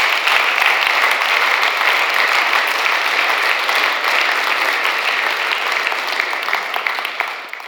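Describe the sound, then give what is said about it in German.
Sustained applause from a crowd for the people who did the cleaning, a dense, steady patter of many hands clapping at an even loudness for several seconds before beginning to thin out at the end. “Und geben wir doch denen, die geputzt haben, einen Applaus.”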